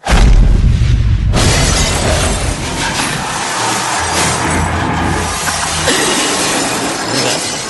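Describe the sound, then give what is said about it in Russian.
A deep, heavy thud gives way to a loud crash of a large glass office wall shattering as a man knocked back by a fist strike flies into it, with broken shards raining and clattering down for several seconds afterward. “я не рассчитал, что стены в офисе Серебряного дождя все стеклянные”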